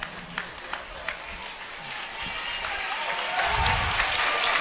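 A South Fayette crowd at a high school basketball game breaks into steady applause as a player subs out, many hands clapping in a dense, crackling wash that swells slightly louder toward the end, with a few sharper individual claps standing out early on.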